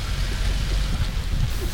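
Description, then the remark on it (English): A Honda car splashing through water in a tunnel: a steady, wet hissing rush over a deep low rumble, continuous and fairly even in loudness for under two seconds, with no voices. “We more expect to see a boat emerge than a car, but after a few minutes we hear splashing sounds getting louder and louder until finally we see headlights and then a Honda appears from the opening.”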